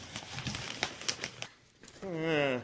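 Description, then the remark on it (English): Newspaper pages rustle and crinkle in a quick burst of crisp, crackly handling as someone looks through the paper for job ads. The rustling stops and a person then starts speaking. “Now let's look at the paper.”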